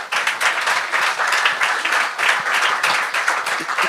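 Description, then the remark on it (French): An audience at an evening show applauds itself, many hands clapping in a dense, bright patter that holds a fairly even loudness throughout, with no voices standing out. “Vous pouvez vous applaudir ce soir, le bordel, s'il vous plaît.”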